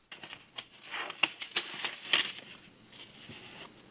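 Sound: papers being shuffled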